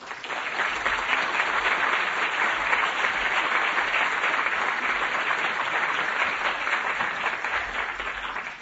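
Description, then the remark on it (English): A steady round of audience applause at an evening event in Minnesota, welcoming Professor John Foley: many hands clapping in a dense, continuous wash of noise that holds level for several seconds without voices over it. “So please join me in welcoming tonight Professor John Foley.”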